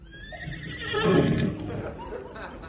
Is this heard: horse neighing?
yes